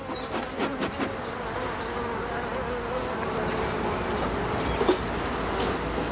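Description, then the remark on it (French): A steady, dense hum of many honeybees buzzing around an opened hive as a beekeeper works gently with them, continuous, with a few brief louder passes of individual bees. “faut être très très doux en fait avec, avec les abeilles, il faut, faut y aller en douceur, parce que sinon après voilà, elles peuvent être agressives.”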